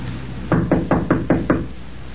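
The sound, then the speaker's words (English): Six firm knocks on a room's wooden door, knocking again, evenly spaced in a quick steady rhythm, clear against a quiet background. “Knock again.”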